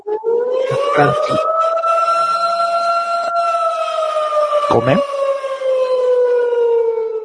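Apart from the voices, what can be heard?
siren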